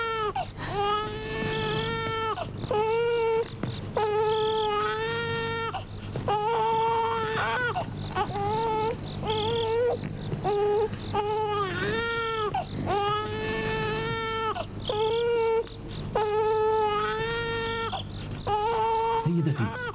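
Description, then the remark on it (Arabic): A baby wails continuously in loud, rhythmic bursts, each cry rising and holding before a quick gasp, repeating for the whole stretch with no pause; the baby is crying from hunger. “ماذا يجري معك ومع هذا الطفل؟ ولماذا يبكي بهذا الشكل؟”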